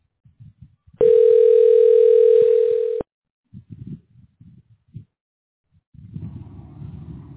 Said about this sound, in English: Don't hang up, okay? You can't hear this phone ringing right now? You're literally on the same mic.